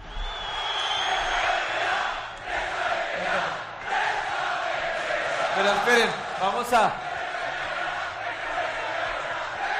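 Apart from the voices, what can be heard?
crowd shouting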